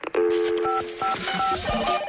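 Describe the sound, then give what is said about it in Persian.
A quick series of electronic telephone beeps from the Radio Farda answering machine, short two-pitch tones following one another over a hissy line before a listener's recorded message plays. No one speaks. “تلفن پیامگیر رادیو فردا است. اکنون به پیام یکی از شنوندگان رادیو فردا گوش می کنیم.”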